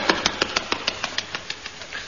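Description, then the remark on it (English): A car engine chugs at a steady idle, the car waiting ready right outside a door, its regular knocking pulses coming about six times a second over a low rumble, with no voices. “Car right outside my door.”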